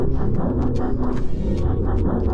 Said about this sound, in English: I think the show's crashing. Sounds like a plane crash, doesn't it?